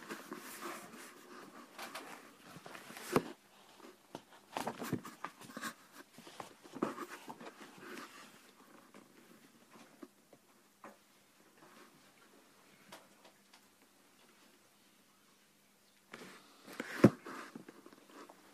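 Crisp rustling and crinkling of paper sheets being shuffled by a speaker searching for a lost sheet, busy in irregular bursts for several seconds, then going quiet before one more short flurry of handling near the end.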